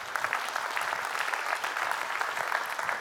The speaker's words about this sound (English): Come on, let's give the Lord a big hand clap tonight.